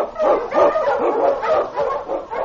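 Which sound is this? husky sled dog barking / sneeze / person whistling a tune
husky sled dog barking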